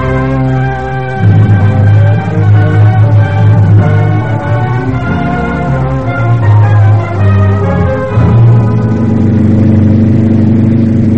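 In a dramatisation of The Great Gatsby, a car engine revs hard and steadily as Daisy drives the car fast. Its loud, droning hum rises and falls in pitch with shifts in acceleration, with no voices.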